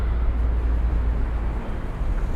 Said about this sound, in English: Oh, very windy. Very, very windy. Construction site.